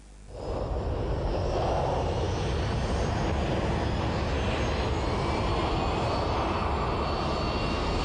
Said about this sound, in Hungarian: Kéne ismerni azt a bizselgető érzést, amikor egy repülőgép fel vagy éppen leszáll. A sokak számára örömet nyújtó érzés azonban több százezer ember életét keseríti meg. A zaj ugyanis egyre nagyobb és elviselhetetlenebb.